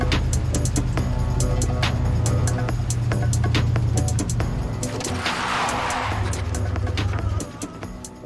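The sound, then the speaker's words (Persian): A car engine rumbles steadily, then a harsh burst of hissing noise rises as if tires skid under hard braking as a person selling tissues jumps in front of the car, fading as the engine settles near the end. “دستمال میپری جلوی ماشین دستمال بفروشی؟”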